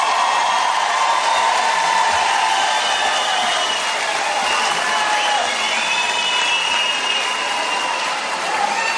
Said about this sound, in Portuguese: Queria, antes de mais nada, uma salva de palmas para o maior presidente da história desse país.